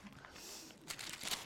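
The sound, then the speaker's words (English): Soft papery rustling as book pages are turned, with a couple of brighter crisp flicks near the end. Quiet and intimate, with no voices. “you said you like pages turning.”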